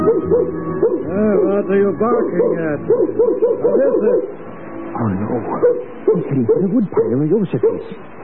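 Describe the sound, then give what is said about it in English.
A dog whines and yelps insistently, its high pitched, wavering cries coming in quick overlapping bursts with a few short barks mixed in throughout, as it picks up a scent and heads for a woodpile. “The dog has picked up your scent. He's headed for the woodpile.”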